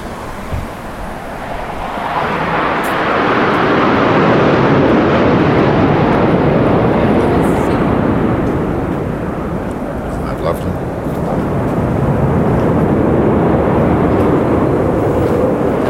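A loud, steady roar of an airplane engine passing overhead, a broad rushing drone that swells slightly around the middle and holds for the whole stretch, with a gusty, wind-like edge.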